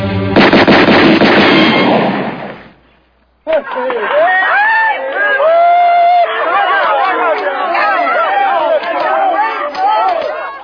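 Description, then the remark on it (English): A loud burst of rapid gunshots cracks for a couple of seconds on a count of three and cuts off. After a short silence, a crowd breaks into excited shouting and chatter. “He can't even hold a gun, much less shoot it. Like I said, on a count of three.”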